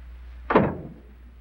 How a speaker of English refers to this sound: She locks the door behind her.